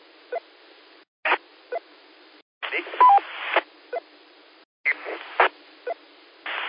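A phone's electronic ring comes through a narrow, radio-like channel as short repeating tone bursts, often in pairs, with bits of hiss and crackle in between.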